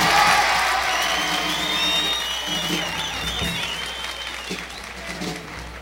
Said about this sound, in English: So after all, I'd like to give all you all a great big applause. Thank you very, very much.